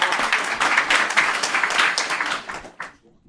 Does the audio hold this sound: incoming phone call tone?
no